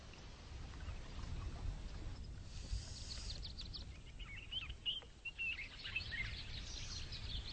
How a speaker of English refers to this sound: Some 12 kilometres from the falls, birdsong and a gentle breeze are all that accompany me along this sedate river walk.